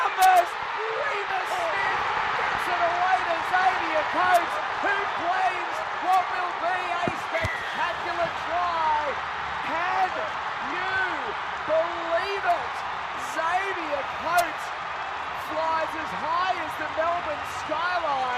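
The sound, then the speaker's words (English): A huge Melbourne stadium crowd at an NRL match roars and cheers steadily for the whole stretch, a dense wash of noise. Commentator Glenn Lauder shouts over the top in rising bursts after Xavier Coates' try. “You can hear the Melbourne crowd.”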